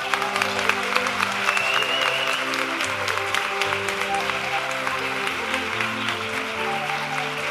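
Steady, dense applause from a large audience at an educational centre for the Galician actor Carlos Blanco fills the whole stretch, many hands clapping at once in a continuous wash with a faint murmur of voices underneath.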